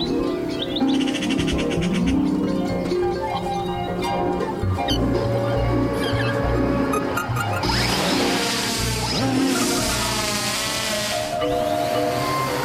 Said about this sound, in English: The difference between a fake bird call and a real one.